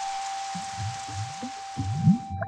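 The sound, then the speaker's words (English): Steady rain hisses down during a drive toward Taipei, with patters and low rumbles underneath, the downpour growing heavier toward the end. “It started to rain. The rain's getting stronger.”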